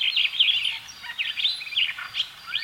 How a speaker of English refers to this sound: Some of the most beautiful birds in the world are starlings.